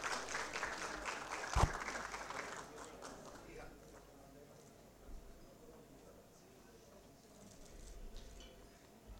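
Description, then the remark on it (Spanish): A crowd claps briskly for members of a team's technical staff as they are announced, a dense patter of many hands for the first few seconds, then the applause thins and fades into a quieter murmur of background noise. “Fuerte los aplausos.”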